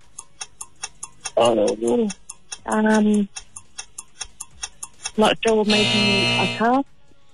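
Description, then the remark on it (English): A five-second countdown timer for a quiz question ticks steadily at a brisk, even pace, its sharp clicks continuing beneath several short bursts of voices talking over it. “you got one question, also got a 5-second timer.”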